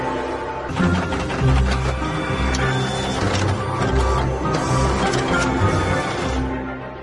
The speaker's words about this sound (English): The new software allows him to reset the counter chip inside his printer back to zero. The printer immediately unblocks.